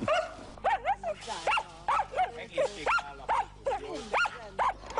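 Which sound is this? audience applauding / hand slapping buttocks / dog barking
dog barking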